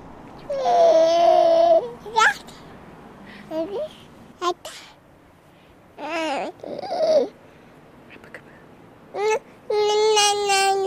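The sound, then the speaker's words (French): A nine-month-old baby girl who has just woken up babbles and coos in short bursts of vocalizing, some drawn out and sing-song, with brief pauses between them, fairly clear. “Elle vient de se réveiller”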